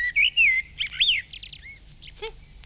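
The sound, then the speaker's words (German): A male blackbird, recorded by a lilac bush while its mate is brooding, sings a short, rich phrase of fluting whistles followed by high twittering notes, clear, with faint low background hum and no voices. “Frau Amsel brütet bereits und ihr Mann singt für sie die hübschesten Lieder.”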